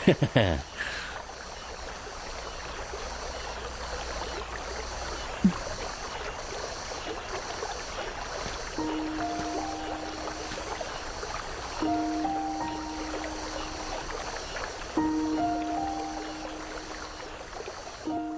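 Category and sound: vehicle, rowboat moving on water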